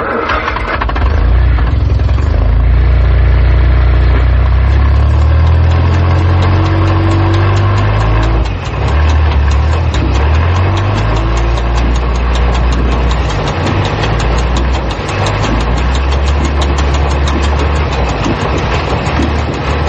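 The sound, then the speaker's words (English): A loud engine drones steadily at low revs, a deep rumbling hum with a slight rhythmic chug that shifts in pitch now and then but never stops. No one speaks. “The first sound of a problem, you shut down the engine, tighten the bag, and...”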